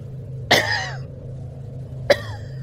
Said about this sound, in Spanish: Lo que sea que tosía allá afuera, lo hizo ahora apenas detrás de la puerta.